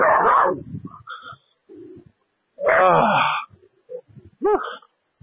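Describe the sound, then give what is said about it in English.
Dogs bark in a few loud, scattered bursts with short quiet gaps between them, some barks drawn out into yelping whines. “Hi, pup. I know. Now I'm talking to you. Stop this. You guys just calm down.”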